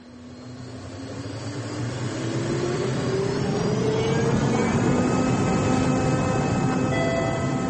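A loud airplane engine roars and builds, its whine climbing steadily in pitch as it powers up for takeoff, with no voices present.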